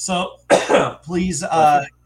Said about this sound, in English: That was a cough, but I'll take it. Thank you. Take all the blessings. Bless you is a general term anyway.